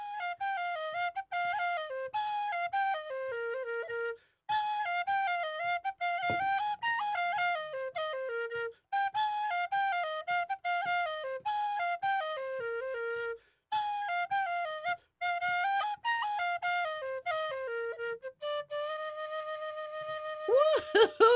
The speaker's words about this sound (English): this wonderful Irish whistle that you're listening to is coming to you live from our studio